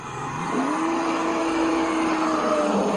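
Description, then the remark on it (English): Forest elephants in the middle of the Congo at about 3 a.m.: a low, drawn-out tonal call rises slightly and holds steady for about two seconds, over a constant high, shimmering chorus of crickets, occasional birds and a dense background hum. “So we're listening to forest elephants at about 3 o'clock in the morning in the middle of the Congo.”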